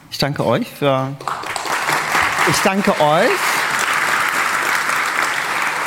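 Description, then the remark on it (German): A voice speaks briefly, then an audience breaks into steady, dense applause that builds quickly and carries on at an even level to the end, with a few vocal sounds early on. “Ich danke euch für diese wunderschönen Tage und dass ihr in den Vorträgen gewesen seid und dass ihr die Vortragenden mit eurem Applaus, mit eurer Aufmerksamkeit unterstützt habt.”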